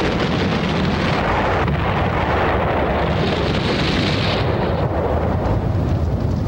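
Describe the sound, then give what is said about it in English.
A small tank of about 20 gallons of gasoline, out back, explodes into fire after being lit by methane: a loud, deep, continuous roar and rumble that holds steady for several seconds, with crackling noise on top and no voices. “20 gallons of gasoline lit by a methane match.”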